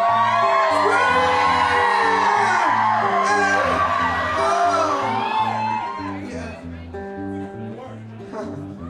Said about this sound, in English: Yeah, this is the part of the show where everybody scream!